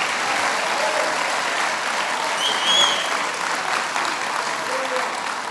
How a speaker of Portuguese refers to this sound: Se você vai aplaudir a Jesus, pode fazê-lo.